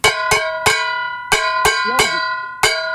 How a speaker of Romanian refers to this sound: Așa se bate. Mamă, deci a sărit smalțul pe tot. Știi cum se aude la voi când bateți oala? Parcă ați arunca-o din tren. Hai, da, corect. Zici că să plimbă un câine cu ea pe liniile de la gara de nord.